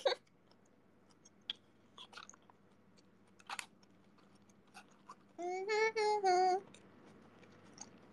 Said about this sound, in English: I'm eating. I'm sorry, I'm chewing.